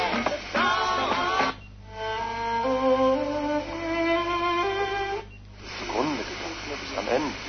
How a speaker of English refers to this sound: lot of white noise.